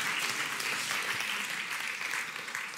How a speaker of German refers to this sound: Der Applaus ist für dich.